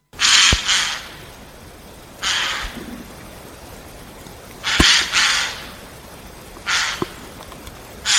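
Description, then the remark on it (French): A Eurasian jay gives harsh, rasping screeches, about four loud noisy bursts a couple of seconds apart, some doubled, against a quiet outdoor background with no talking. “on ne peut pas parler de chant pour le jet des chaînes, mais il a un répertoire vocal très riche”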